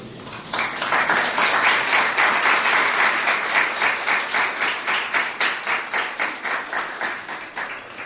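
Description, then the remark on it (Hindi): An audience applauds loudly and steadily at the end of a Hare Krishna spiritual discourse, the dense clapping later thinning into a more rhythmic, pulsing pattern of individual claps. No one speaks over it. “अब आप लोग ताली बजा रहे हैं और मैं तब ताली बजाऊंगा जब देखूंगा कि आप सब ये ब्रह्म संगीता सही रूप से पढ़ रहे हैं।”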